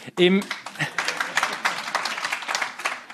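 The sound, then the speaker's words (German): Spontaneous audience applause: a short voiced exclamation, then dense, steady clapping that fills about three seconds, with some voices mixed into the crowd noise. “Im spontanen Applaus schliesse ich, dass das offenbar auf Zustimmung gestoßen.”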